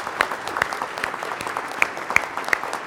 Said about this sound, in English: If you helped with Coated in Love, would you stand up for just a moment? Would you stand right where you're at if you helped out in Coated in Love? Would you just give them a big, big, big round of applause?